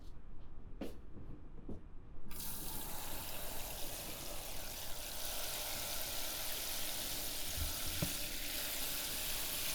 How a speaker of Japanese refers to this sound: 泡をたっぷり使ったのでお湯もたっぷりでトリートメントを流します。